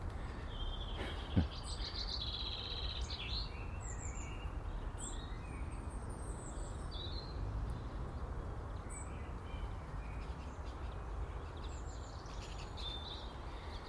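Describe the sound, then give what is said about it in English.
Wild birds chirp and tweet at feeders in quick, high, overlapping bursts over a steady, noisy background hiss, with one sharp knock early on and no voices. “Oh, I need to fill up those bird feeders again, those greedy wee buggers.”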